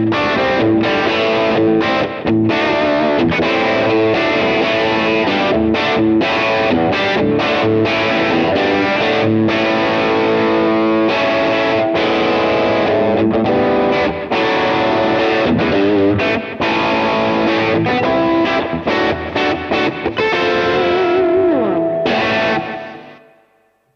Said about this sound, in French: Bah écoute, c'est joué avec de la reverb et du délai ping-pong, donc tout passe à ce moment-là, quoi.